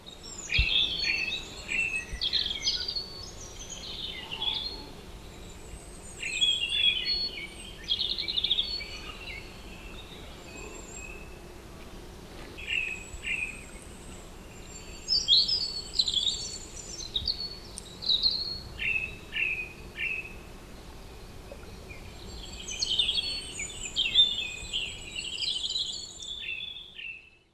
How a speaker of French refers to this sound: Essai d'enregistrement d'un merlaplastron relativement éloigné dans la forêt de Sarcena.